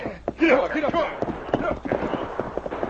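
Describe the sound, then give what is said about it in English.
Horses' hooves gallop in a quick, uneven drumming of sharp thuds as Kendo's men urge their mounts in pursuit of half a dozen riders up a creek, with a voice sounding briefly over the first second of hoofbeats. “Kendo men urged their mounts in pursuit of half a dozen shadowy figures racing up the”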